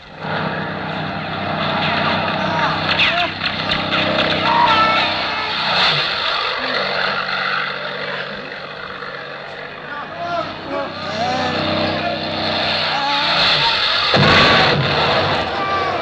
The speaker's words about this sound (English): Look, the plane! There are 2 of them! Barely off the ground!